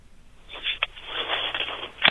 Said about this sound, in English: Nope. Just him breathing heavily and hanging up the phone, like he should, like I commanded him to.